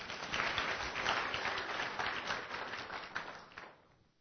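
A crowd applauds with dense, sustained clapping at a steady loudness that tapers off near the end, heard without any talking over it.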